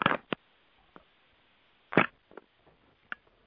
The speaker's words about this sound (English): And the way we do that, I'm afraid I'm going to have a cough, sorry.